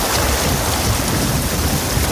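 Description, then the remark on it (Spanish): The swollen Adaja river rushing past the city of Ávila as storm Martín brings widespread rain and strong wind, in a loud, unbroken roar of churning water, steady and dense throughout with no pauses and no voices. “Así suena el río Adaja a su paso por Ávila.”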